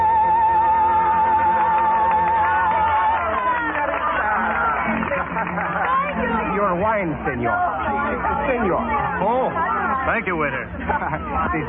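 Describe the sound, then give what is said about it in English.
A festive, celebrating crowd fills a busy little cafe with loud, dense overlapping chatter and lively voices, opening with a sustained held tone over the din before the babble swells and carries on steadily. “Bells ringing wildly, crowds cheering in the streets, singing, dancing.”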